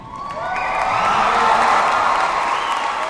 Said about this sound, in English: Everyone in the room stands to cheer him on.